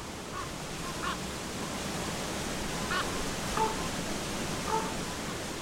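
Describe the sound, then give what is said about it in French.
Wind whips steadily against steep quartz rocks in the Rosigalgo massif, the highest mountains of Cabañeros park, on a cold, bright February morning, in a constant, full roar that never lets up, with a few faint, brief bird-like calls breaking through. “Le jour s'est levé il y a plus ou moins 2 heures et le vent n'arrête pas de fouetter ces rochers escarpés.”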